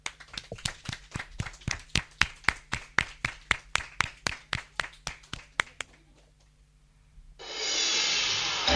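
A class of children at the Colegio Virgen del Mar school claps together in a steady, even rhythm, about two dozen sharp claps over several seconds, then stops. A brief quiet follows before a loud hiss comes in.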